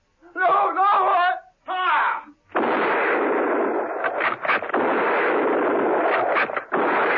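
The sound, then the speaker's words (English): A voice cries out in anguish, then a loud, sustained volley of gunfire from a firing squad of troopers erupts in a garage, a rough roar punctuated by several sharp, irregular cracks that runs for about five seconds. “Steed and Merlin heard the shots and without a word ran towards the garage.”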